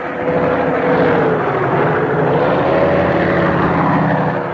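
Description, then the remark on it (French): A whole flock of pterodactyls, birds with the wingspan of a four-engine plane, passing through the black sky and sounding like airplanes: a loud, steady propeller drone, low humming engine tones that waver and dip slightly in pitch, continuous throughout with no voices. “Toute une compagnie de ces oiseaux passe d'ailleurs dans le ciel noir actuellement. Et vous pouvez les entendre.”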